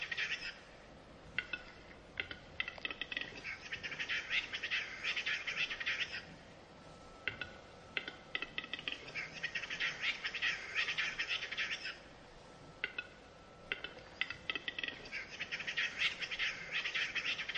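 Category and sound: bird, capercaillie calls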